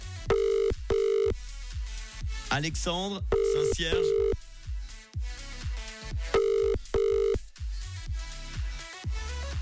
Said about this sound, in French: J'ai eu peur, hein. Je me suis dit dernière sonnerie et après malheureusement on doit appeler quelqu'un d'autre.